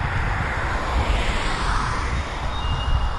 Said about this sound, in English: I'm using the iRiver this morning, so I don't usually like to use it on these walks because I appreciate the automatic gain control in the Olympus a lot better, so you may get some few little clips of big trucks and so forth.